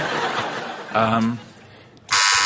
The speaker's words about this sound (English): Anyway, I've got well, there's your buzzer winking at me.